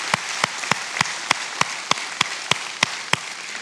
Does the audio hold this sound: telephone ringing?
no